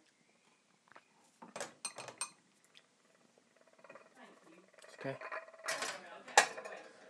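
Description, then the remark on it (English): A cup clinks and knocks against hard surfaces as it is put into a microwave, followed by the clunk and clatter of the microwave door and handling, with a brief spoken word among the sounds. “I'm going to put it in the microwave, actually, because that's not warm enough.”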